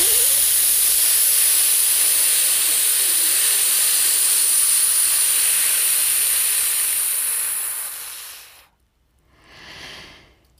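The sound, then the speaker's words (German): A long, steady, sharp whistling hiss of breath forced out through a gap between the upper front teeth during an exhale exercise, lasting around eight seconds before fading, then a brief, softer second puff of air. No talking. “zwischen den Schneidezähnen, den oberen, eine Zahnlücke und du pfeifst jetzt richtig mal bei der nächsten Ausatmung die Luft raus und lässt die Spannung in diesem Harnblasen, in der Spannung.”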